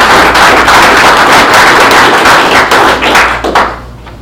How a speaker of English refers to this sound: Let's clap.